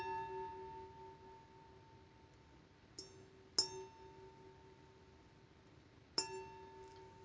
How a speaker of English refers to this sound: Especially by these glasses, because they sound like church bells.